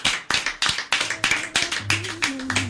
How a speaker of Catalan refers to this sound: Molt bé, moltes gràcies. Un aplaudiment.